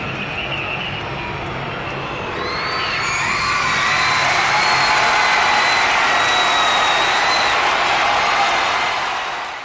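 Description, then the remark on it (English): A dense crowd roar of a concert pre-show at a large arena, used as the first track of an album, swells after a couple of seconds and stays loud, with high whistling cries and shouts streaking over the steady wash of noise. “The first track is what? It's some crowd noise, right?”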